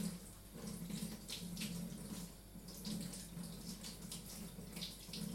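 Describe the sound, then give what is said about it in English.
Steady rush of cold tap water running into a kitchen sink, with shifting splashes and spatter as brined meat is rinsed under the flow to wash off salt and sugar, continuous for several seconds with no talking. “I'm going to rinse them well under cold water.”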